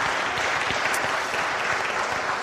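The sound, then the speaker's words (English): Sustained audience applause thanking the participants, a dense steady wash of many hands clapping at an even loudness throughout, with no voices standing out. “Let's thank these guys for all they have done and be a part of this time.”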